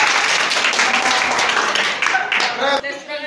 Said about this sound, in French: Merci beaucoup, applaudissez pour nous.